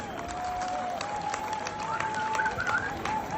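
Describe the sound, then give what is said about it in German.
A crowd applauds steadily for the supporters and sponsors of an event, dense clapping at a moderate level, with a faint sustained whistle-like tone running through the noise. “Mal einen fetten Applaus einmal für die alle.”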